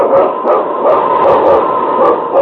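King, the husky lead sled dog of the radio show The Challenge of the Yukon, barks and yips repeatedly in a quick, excited rhythm, loud, with continuous dense energy and no talking.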